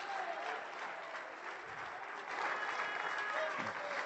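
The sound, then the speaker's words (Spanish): An audience bursts into steady, dense applause for Jesus Christ, many hands clapping continuously at an even, loud level for several seconds, with a few faint voices cheering underneath. “¡Denle un aplauso a Él!”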